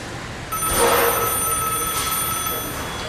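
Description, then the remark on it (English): A telephone rings with an incoming call. It is a bright, steady electronic tone holding several sustained high pitches, starting abruptly and continuing at a fairly loud level with no one talking. “She's calling me now. I need to find somewhere quiet to answer this phone.”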